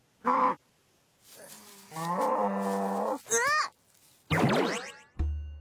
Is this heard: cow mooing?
yes